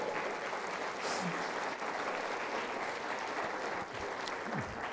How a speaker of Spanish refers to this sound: Okay, muchas gracias. Hasta por eso aplauden.